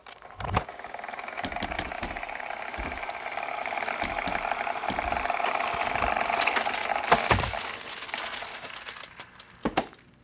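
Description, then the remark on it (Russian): Time machine sound effect of levers and gears: a series of sharp clicks and ratcheting clacks over a steady whirring hum, ending with a couple of loud clunks. No one speaks. “Здесь должны быть, наверное, знаешь, какие-то звуки каких-то рычагов, или вот как в фильме «Иван Васильевич меняет профессию», он там крутил какие-то ручки всякие, булькало что-то, и мы понеслись в 1963-й.”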